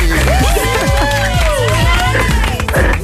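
A crowd claps and cheers loudly and steadily for about three seconds, with whoops and high whistles rising above the dense wash of applause.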